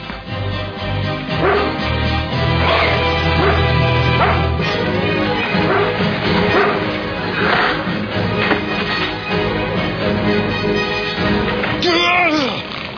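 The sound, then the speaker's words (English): A dog barks and yips repeatedly in loud, irregular bursts over a dense, busy background, with a brief high whine near the end. “Let go, you dumb dog!”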